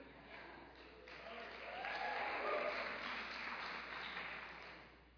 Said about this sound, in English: I don't know who those people are clapping, but I know who they aren't, though, I'll tell you that right now.